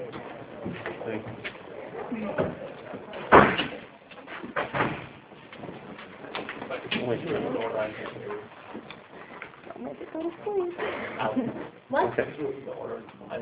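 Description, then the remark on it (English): Two sharp, loud bangs of doors slamming shut, close together near the start, with people talking around them in a busy, echoing space. “Hey, can we catch these doors here?”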